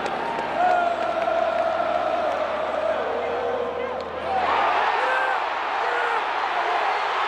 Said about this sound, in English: This is Duval's grand slam. You hear the crowd going crazy. First inning grand slam. That did not portend well for the Houston Astros.